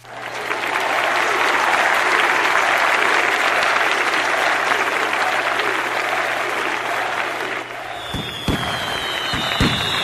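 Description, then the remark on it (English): In the exit scene of the computer game Light Locator, a dense wash of crowd applause and cheering fills the first eight seconds, then gives way to a few sharp firework pops and a high whistling tone, all with a steady low hum beneath. “So you get a crowd and some fireworks.”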